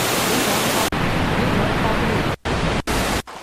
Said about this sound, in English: Loop water. Loop waterfall. Loop waterfall 1.